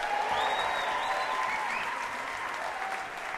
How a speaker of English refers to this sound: And how about a nice round of applause for the great ….